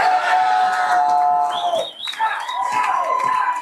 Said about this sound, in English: As the clock wound down on Super Bowl 60, a roar went up at the Roanoke Bar in Seattle, one of many packed to capacity across the city.